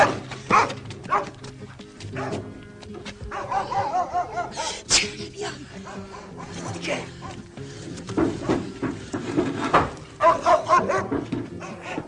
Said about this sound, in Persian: سگ همسایه بغلی شروع میکنه به واق واق کردن.